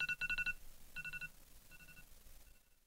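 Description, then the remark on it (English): An old phone used as an alarm clock rings: its alarm ringtone chirps in quick bursts of repeated electronic beeps, each burst growing a little fainter until the ringing trails off near the end. “Or you could even keep it as your alarm clock.”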